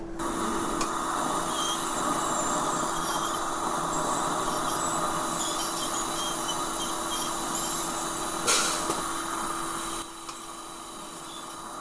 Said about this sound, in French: Écoutez le son du ventilateur là, qui vous envoie de l'air bien agréable.